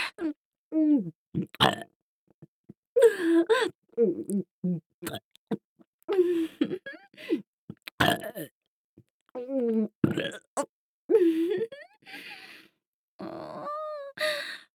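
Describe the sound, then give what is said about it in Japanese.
A woman burps loudly over and over, a string of drawn-out, croaking belches up close, separated by short pauses, with no words spoken. “女の子にこんなみっともないゲップさせて必死におなっちゃうなんて最悪最低ですね。”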